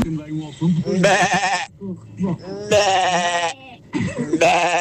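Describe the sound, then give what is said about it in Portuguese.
A radio listener imitates a sheep, letting out three drawn-out, wavering bleats with short pauses between them, loud, with some low murmuring in the gaps. “Aqui vai a minha ovelha.”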